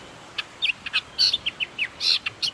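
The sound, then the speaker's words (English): A Nihoa millerbird (ulūlū) sings alone: a quick run of about a dozen high, thin chirps and short buzzy trills, clear against a faint, quiet background. “These reintroduced birds even got a special name in Hawaiian, ululu niau.”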